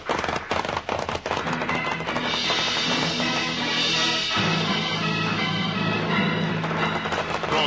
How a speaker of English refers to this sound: Push their horses hard, riding away from the narrow passageway, then up the steep sides of the mountain.